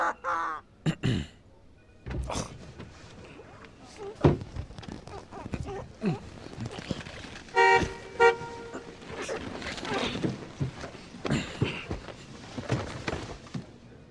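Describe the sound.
A car horn honks in a couple of short, bright toots partway through, rising above a busy, clattering background with scattered voices and cawing-like calls.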